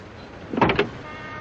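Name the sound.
car door being opened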